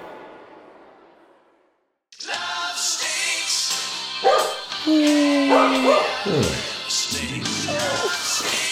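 After a fading rush of noise and a brief silence, a dog barks and yips repeatedly amid a busy, dense mix of other sounds, fairly loud throughout.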